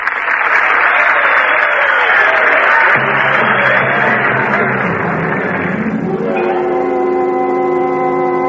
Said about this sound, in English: Now, for that you can applaud.